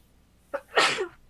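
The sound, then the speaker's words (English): A single forceful sneeze: a short sharp inhale catch followed by a loud, breathy burst that fades quickly into quiet. “Bless you.”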